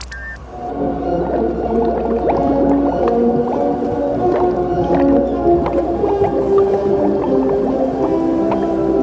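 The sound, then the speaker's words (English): A 'drowning orchestra' sound effect created with a programmed resonator: wobbling, bent orchestral notes swirl together with bubbling, gurgling water noises, loud and continuous throughout, as if instruments were being played underwater. No voices. “A drowning orchestra?”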